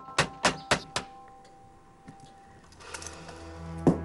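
Four sharp, evenly spaced raps on a front door in quick succession, followed by a lull of faint shuffling and a single duller thump near the end.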